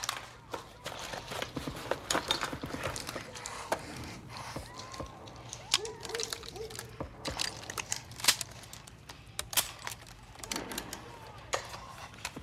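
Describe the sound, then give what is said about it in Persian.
Brass-ended shotgun shells being pushed into a shotgun's loading port, giving a run of sharp metallic clicks and clacks at an irregular pace over a low steady hum, with no speech. “یک گلوله بردارین، انتهای برنجی رو نگه دارین، به سمت جای تیر فشار بدین تا وقتی که صدای کلیک رو بشنوید.”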